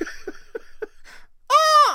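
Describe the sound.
After a few short, breathy chuckles, a person lets out a single loud, shrill screech that rises and falls, a vocal imitation of an eagle's cry.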